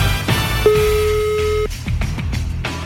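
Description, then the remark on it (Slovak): A single steady ringback tone of an outgoing phone call to an Italian restaurant, placed during the Europa 2 radio morning show, mid-pitched and about a second long, sounds over a low background bed, followed by a few soft clicks. “Ideme volať do talianskej reštiky práve teraz.”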